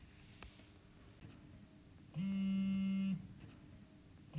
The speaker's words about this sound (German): Mist, wo ist mein Handy? Es muss auch immer im falschen Moment klingeln.